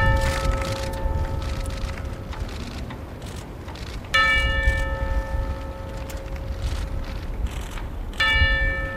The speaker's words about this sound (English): It began with the bell rung at the White House.